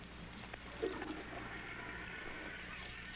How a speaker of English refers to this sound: Flush the toilet to prove you're in there. Okay, wait, hold on.